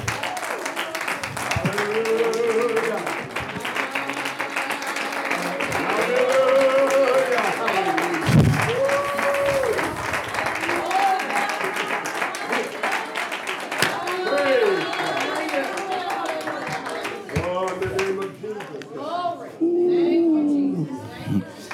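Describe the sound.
Many hands clap steadily and continuously for about twenty seconds while a crowd's raised voices and calls ring out over the clapping.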